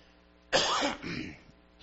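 A preacher's sudden, harsh cough bursts out during a sermon, followed by a rougher throat-clearing rumble that fades after about a second, with quiet around it and no talking.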